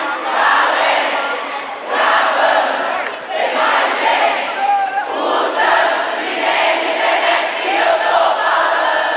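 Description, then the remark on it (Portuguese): A large concert crowd roars and screams continuously at high volume, a dense wall of cheering that swells in waves with only a brief dip near the middle. “Eu quero o barulho bem alto”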